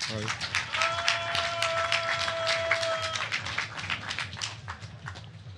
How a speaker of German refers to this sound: Applaus bitte.